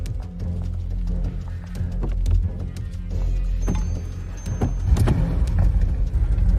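In a parking garage, a man and women climb into another Audi: scattered footsteps and several sharp thumps and clunks of doors, over a steady low rumble like an idling engine, with no one speaking.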